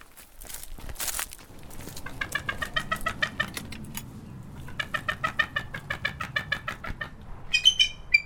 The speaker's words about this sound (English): So there's a bit of commotion here, and I recognize the participants. This is a bald eagle? A bald eagle is correct. Yes, she's a little chatty because, unlike most of the raptors, she is more social.